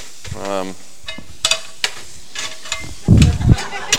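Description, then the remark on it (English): Pans being moved around a kitchen: a few sharp knocks and clanks, then a louder, heavier clattering scrape near the end, with a brief tonal hum early on. “I better just get rid of one of those pans. I got one too many pans here.”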